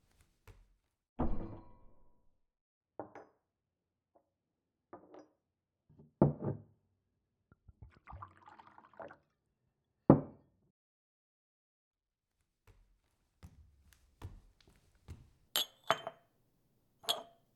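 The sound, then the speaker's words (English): Scattered glass clinks and dull knocks of dishware, fairly quiet, with a brief stretch of water being poured for a glass of water partway through; no one speaks. “While you get ready, I'm going to go get you a glass of water, okay?”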